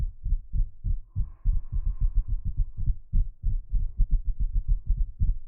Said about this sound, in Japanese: 肩、こうやってトントンってしていくの。少し音ゲーみたいかも。